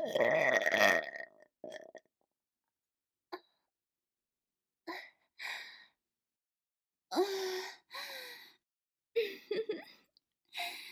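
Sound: loud burp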